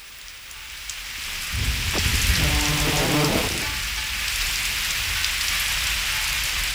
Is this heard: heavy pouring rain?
yes